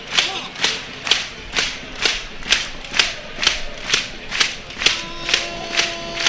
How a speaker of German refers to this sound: Die klatschen.